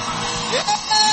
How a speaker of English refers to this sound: Can we lift our voice one more time and give the Lord a thunderous shout?